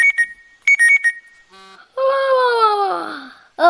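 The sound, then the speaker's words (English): Two bursts of rapid electronic alarm beeps, then a long, loud voiced yawn whose pitch slides steadily downward for over a second before another vocal sound begins. “You could have just yawned.”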